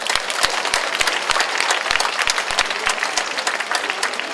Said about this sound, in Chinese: 我们再一次的用掌声把一切的荣耀归给我们的神。